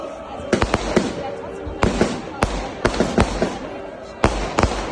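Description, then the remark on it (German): Fireworks go off in an irregular series of sharp, loud bangs, some coming in quick doublets, over a steady low rumble of background noise. “Bisschen Feuerwerk gab es auch.”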